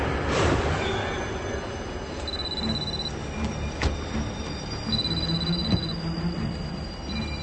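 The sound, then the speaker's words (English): A train rumbles along the rails with a steady low roar, broken by sharp metallic squeals and clanks from the wheels, loud throughout. “don't get on the train.”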